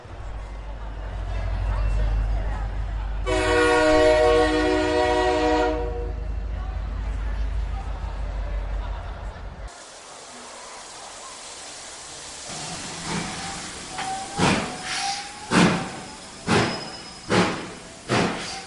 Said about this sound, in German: Der Hogwarts Express fährt nun vom Gleis 9 4 Drittel ab. Alle Schülerinnen und Schüler werden freundlich daran erinnert, ihre Fahrkarten bereitzuhalten und unverzüglich einzusteigen. All aboard!